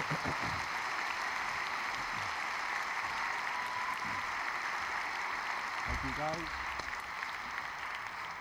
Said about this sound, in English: And Flawn and everybody in the sound crew, maybe give them a round of applause.